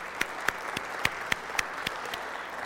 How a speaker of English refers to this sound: So let's, church, clap it up for how excited we are about baby Seth.